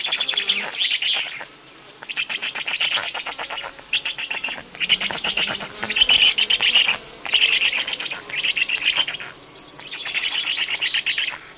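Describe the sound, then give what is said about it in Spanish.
Flies buzz in repeated, raspy bursts around a black vulture's nest built in a large cork oak, each lasting under a second and coming in a steady run of about ten pulses, with faint chirping mixed in and no talking. “Enseguida llega el buitre, que sacude a todas las moscas del nido e incita a los pollos ya grandes a pedir comida.”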